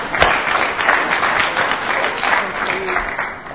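A church audience applauds steadily as a speaker is invited up, a dense, even wash of many hands clapping at once with no clear individual beats, holding at a moderate, constant loudness throughout.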